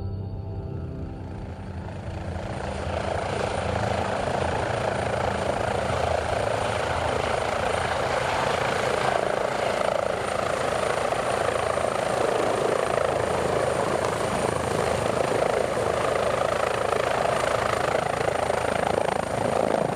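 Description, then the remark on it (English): A helicopter drones steadily and loudly throughout as it arrives into the crater, the caldera of the Alcedo volcano on Isabela Island in the Galapagos. Its rotor chop and engine whine form a dense, continuous roar that swells slightly at the start and then holds constant. “Now we've arrived by helicopter into the crater, the caldera of the Alcedo volcano on Isabella.”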